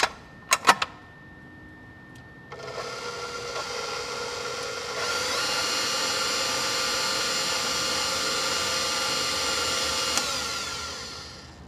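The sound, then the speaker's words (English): A few sharp clicks, then a stand mixer fitted with a paddle attachment starts up mixing seasoned bratwurst sausage meat to create the primary bind, its motor whirring steadily and growing louder as the speed rises, without any talking. “transfer the mixture to the bowl of a stand mixer fitted with the paddle attachment”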